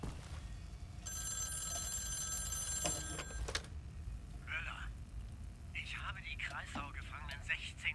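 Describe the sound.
A telephone bell rings steadily for about two and a half seconds over a low background rumble, then stops, and a voice starts talking a moment later.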